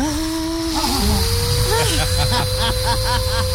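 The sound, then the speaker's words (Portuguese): A voice imitates the motor of a floor polisher used with pink wax, which spun around the house and heated up, giving a steady, buzzing drone that climbs slightly in pitch and holds for a few seconds, with a rough, hissy edge. “Ficava girando pela casa, né? Isso, aí esquentava, aí o motor fazia assim, ó.”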